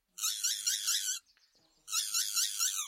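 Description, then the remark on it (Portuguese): A neinei bird sings two loud, harsh, buzzy notes, each about a second long, separated by a brief pause with faint chirps in between. No voices accompany the call. “O canto desse pássaro soa como se falasse neinei.”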